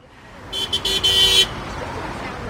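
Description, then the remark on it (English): A car horn honks several times in quick succession, three short bursts followed by a longer one, loud, over a steady rumble of passing traffic during morning rush hour on York Road, Baltimore County, honking in support of State Senator Jim Brochin as he holds up a campaign sign. “It's morning rush hour along York Road, and Senator Jim Brochin is waving to people and holding up a campaign sign, occasionally getting a honk of support.”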